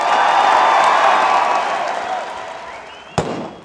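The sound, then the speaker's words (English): A large crowd at a one-mile track race roars and cheers loudly for runner Alan Webb, the noise gradually fading before a sharp bang or slap near the end. “As the announcer read the names of the men lined up to run the one-mile race, it was clear that even though most did not expect Alan Webb to win, he was the crowd's favorite.”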